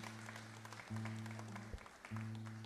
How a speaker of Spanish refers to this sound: Aquí está el aplauso para este querido amigo.